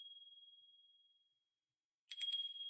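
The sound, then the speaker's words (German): Small bells on the antique seismograph built in 1794 by Ascanio Filomarino, kept in the old observatory on Vesuvius, ring with a clear, sustained high tone that fades away, then after a short silence are struck again with a bright jangling cluster of tinkling chimes, fairly loud. “Die Glöckchen am Seismographen von Filomarino.”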